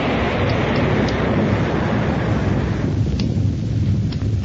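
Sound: geyser erupting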